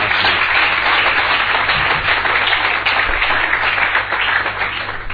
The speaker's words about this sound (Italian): Grazie Gesù. Signore, grazie. Un applauso al Signore.